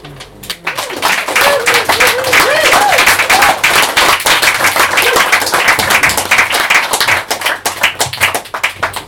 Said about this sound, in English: Thank you very much for such a diverse and powerful array of readings and of voices. Can we have another big round of applause?